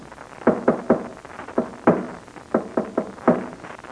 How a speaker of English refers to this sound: Then listen to this. I'm going to tap against the wall using the Morse code. Listen.